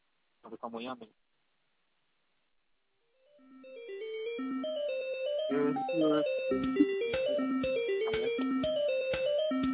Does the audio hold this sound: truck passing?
yes